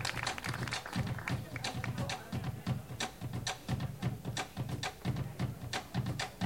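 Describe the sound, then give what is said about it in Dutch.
An audience claps along in a steady, rhythmic beat, with sharp, evenly spaced claps repeating several times per second over a low, thumping background. “Dus ik wil dat jullie allemaal meeklappen, meedansen, meezingen.”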